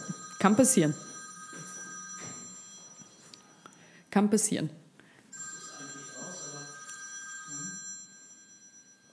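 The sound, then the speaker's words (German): A mobile phone rings steadily throughout, its sustained electronic tones droning on while people speak briefly over it. “ist das ihr mein Telefon. Handy?”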